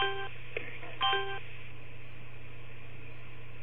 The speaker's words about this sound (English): Wait for the bells to go.